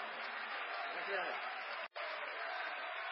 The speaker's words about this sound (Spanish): ¡Los aplausos!